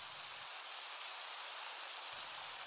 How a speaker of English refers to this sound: Too bad it's raining.